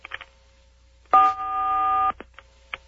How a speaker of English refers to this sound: Okay, press 4 on your touch-tone telephone now.